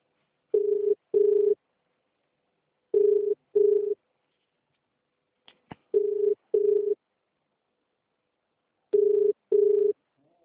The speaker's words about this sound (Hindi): मेरा फोन बज रहा है, उठा तो नहीं पा रहा जरा।